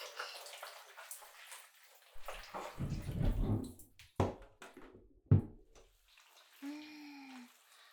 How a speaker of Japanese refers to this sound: マッサージオイルを流しましょうか。全身やりましたもんね。しっかりやらないとです。ボディーソープはどれだったっけ。これかな。シャワー借りますね。